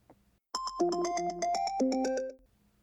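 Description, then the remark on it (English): A mobile phone sounds its notification alert: a quick, bright run of electronic beeps forming a short melodic jingle, clear, lasting under two seconds with silence around it. “Wei Wuxian wakes to the sound of his mobile notifications going off”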